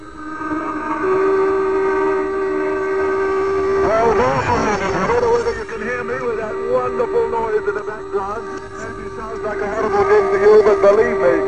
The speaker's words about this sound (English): Wonderful noise, because that means those tugs hooting and tooting mean that the caisson has been placed in position. They mean that the dike has been repaired.